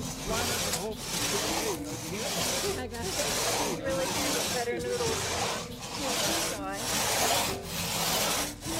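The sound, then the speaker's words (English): A crosscut saw rasps through wood in steady back-and-forth strokes, loud, each pull a rough hissing burst with brief pauses between, while voices murmur faintly underneath, as participants in a crosscut saw certification training grab saws and work together. “I think we're ready for you guys to start grabbing saws and working together.”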